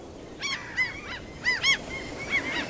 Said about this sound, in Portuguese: Vão ter que fazer como as gaivotas, que se comunicam com sons agudos que se destacam sobre a paisagem grave.